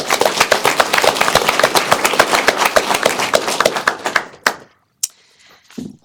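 A group applauds with dense, overlapping handclaps for about four seconds, then the clapping thins to a few scattered final claps and fades out.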